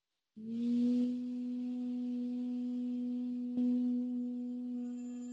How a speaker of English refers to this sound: So here we go. We're going to inhale now into the vocal body area. And we're gonna hold, and then we're gonna bring that in with a hum.